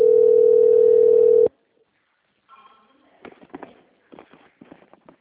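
A telephone ringing tone from an outgoing call to the same phone number: one loud, steady, mid-pitched beep that holds about a second and a half, then cuts off, followed by a pause and quieter voices talking.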